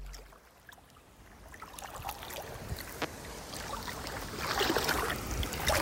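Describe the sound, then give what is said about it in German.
Continuous sloshing and splashing of someone wading through the water of Lake Zurich under a clear blue sky, with scattered small splashes that grow louder and denser toward the end. No voices. “Ich warte hier gerade durch den Zürichsee.”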